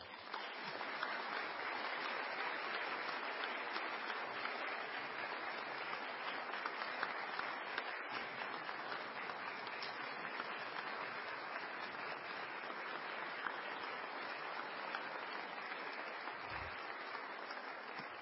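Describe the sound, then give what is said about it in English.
Steady audience applause for Clara Mahogo, the mayor of the city of Monrovia, fills the whole stretch, a dense, even wash of many hands clapping at constant loudness with no breaks and no voices standing out. “The clapping she's getting, she's going to have to work double time for it.”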